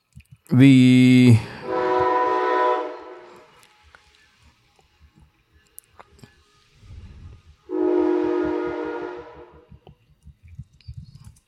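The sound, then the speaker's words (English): A loud train horn blares in long blasts, two back to back and then another after a pause, over the low rumble and rhythmic clatter of a passing train. “The train's coming through.”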